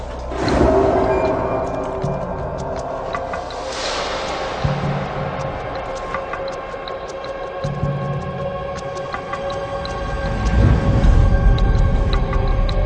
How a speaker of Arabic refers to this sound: صراخ الجاموس الهرمي يسمع من قبل قطيع الجواميس الموجود بعيدا عنه، فيحضر إلى المكان مباشرة.